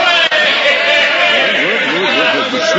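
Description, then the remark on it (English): A loud crowd on a train platform cheers and calls out together to greet an arriving passenger. Many overlapping voices rise and fall in a steady, excited roar that holds for the whole moment without pause. “What's this crowd for? It's for you, Uncle Joe. They came down to greet you.”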